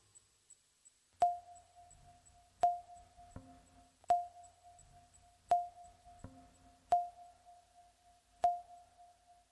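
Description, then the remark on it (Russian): An alarm ringtone chime repeats six times at a steady, unhurried pace. Each bright, bell-like tone strikes crisply and rings out before the next, with no voices. “Оказавшись в узком лабиринте эмоциональной захваченности и услышав рингтон-будильник, возвращающий нас в практику, мы делаем для начала глубокий вдох.”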